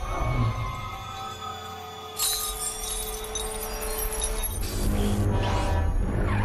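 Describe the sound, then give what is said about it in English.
A dislodged crystal flies through the air and shatters into tiny pieces with a bright, glassy burst, followed by sparkling tinkles and scattering shards over a low, sustained rumble, fairly loud with no talking. “One of the crystals becomes dislodged, and in slow motion it flies through the air and smashes into tiny little pieces.”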